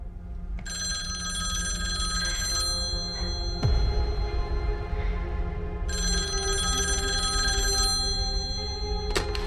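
A telephone rings at a Southwestern Bell office in steady bursts, a bright electronic trill that starts, pauses briefly, then resumes, over a low background hum with no one speaking.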